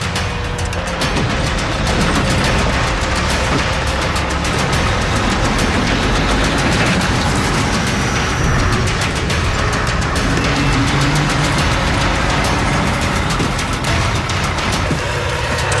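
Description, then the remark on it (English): A truck engine roars loudly and steadily, straining as a stuck truck is jerked free with a tow chain, with rough mechanical rumble and no voices throughout. “Just come ahead and give her a good jerk.”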